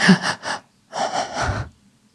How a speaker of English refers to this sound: And in silence, I could hear him, like, breathing very heavily.